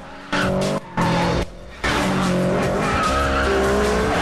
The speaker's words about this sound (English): Squad cars race along behind as Brian and Pierce squeal round the bend.